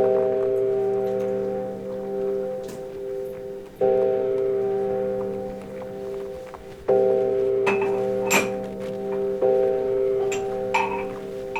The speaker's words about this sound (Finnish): kaikki huomasivat, että tuomiokirkon kello löi 13 yöllä.